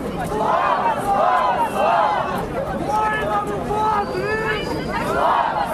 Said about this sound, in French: Et justement, les nationalistes étaient environ 10 000 dimanche entre discours de chefs et concerts sur les places et dans les rues de Kiev à crier leur slogan à la gloire de l'Ukraine.